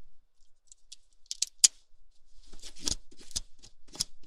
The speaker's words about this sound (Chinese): 是的，你可以看一下上面有各种蕾丝图案，而且这一款虽然是人造的，但是它一点都不勾丝。你看，哎，稍等一下，拿个东西。你看这支笔，我在上面勾一下。